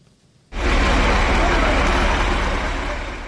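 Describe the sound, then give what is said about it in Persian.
After a brief quiet moment, a loud, deep rumble of heavy cargo trucks passing through the Golbuteh neighbourhood of Dushanbe abruptly fills its inner residential street, a steady roar of engines and tires that holds for several seconds. “ماشین های باربری گران وزن از محله گلبوته شهر دوشنبه شب و روز می گذرند.”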